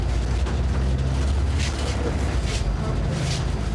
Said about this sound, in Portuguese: Mas ao mesmo tempo, a gente sacou logo que o barulho do ar só ia piorar o combo do barulho do motor com as péssimas condições de conservação da carcaça do ônibus. E a maior parte da gravação tá suando assim.